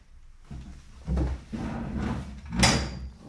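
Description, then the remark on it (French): A deckchair is handled: a few knocking and creaking movements, then a sharper clack near the end as the frame snaps into place, with no talking. “Chaise longue.”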